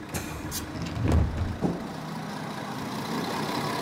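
A bus engine rumbles steadily amid street traffic in Vaduz in September 2021, with a couple of louder low thumps and a brief hiss of brakes near the start, continuous.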